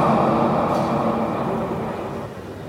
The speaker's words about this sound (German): Meine Damen und Herren, am Gleis 23 fährt ein der Regionalexpress nach Fulda über Hanau und Gelnhausen. Dieser Zug fährt wegen einer betrieblichen Anweisung heute nicht über Offenbach.